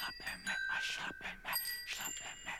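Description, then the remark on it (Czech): Bicycle bells ring again and again at the busiest crossroads of the capital city, bright metallic trills overlapping in quick, irregular bursts, with a murmur of voices and street bustle underneath. “Dovolte, abych vám pustil jednu svou reportáž z nejrušnější křižovatky našeho hlavního města.”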